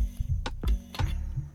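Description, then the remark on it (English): A thermos lid is twisted open before a hot drink is poured into a cup, giving a few sharp plastic clicks and soft scraping turns over a low rumble, with no talking. “First, I have to undo the lid, of course.”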